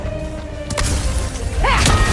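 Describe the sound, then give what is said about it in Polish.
A video game explosion: a sharp blast followed by a deep, continuous rumble, with a second burst and a brief swooping electronic whine near the end. “Wybuch ją ogłuszy.”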